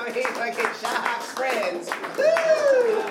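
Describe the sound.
A crowd claps at a stand-up comedy show in the Kremansky club, scattered applause mixed with voices and a rising cheer or whoop near the end, steady throughout.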